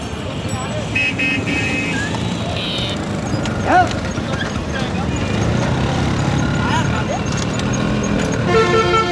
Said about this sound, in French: Pour reposer vos porteurs, vous allez sur cette charrette qui hoquette avec cet âne malheureux qui vous tire vers le fleuve, vers le miracle de l'eau.